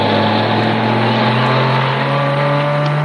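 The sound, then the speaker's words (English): A police car comes slowly along the road, not going very fast, its engine a loud, steady droning hum that rises slightly in pitch as it draws nearer, with no voices over it. “look, there's a police car coming along the road.”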